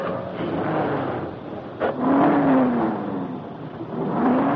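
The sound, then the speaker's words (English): The cold engine of a new convertible, started with the starter button by a parking lot attendant, catches with a brief burst and is revved hard, a loud, steady roar whose whining pitch climbs and sags and then rises again toward the end. “Then the attendant entered the young publisher's new convertible and touched the starter button.”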